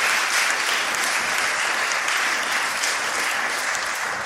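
An audience applauds steadily, a dense wash of many hands clapping at once, sustained and loud throughout before easing off slightly at the end. No voices stand out.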